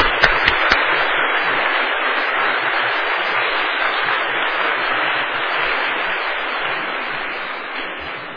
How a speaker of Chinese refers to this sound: 我们再次热烈掌声来感谢他们哈。